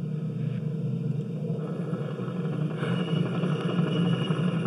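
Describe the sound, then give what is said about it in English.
A helicopter drones steadily throughout in a virtual reality exposure simulation of driving along a road in Iraq, a deep continuous rumble with a faint throbbing pulse underneath. It's moderately loud and unbroken, with no voices. “So the helicopter sound is definitely jarring.”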